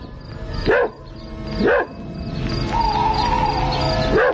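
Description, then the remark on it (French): A dog barks three times, spaced about a second apart, each bark short and sharp over a steady chorus of chirping crickets in the background. No one speaks. “J'entends mon chien qui aboie.”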